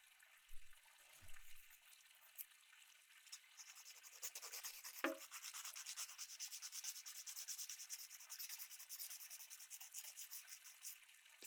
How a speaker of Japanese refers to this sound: 薬指。小指と。爪やすりをかけて。